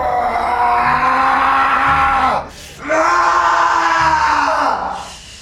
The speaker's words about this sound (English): You have … going crazy here, obviously, with the screaming at the end. And rightfully so.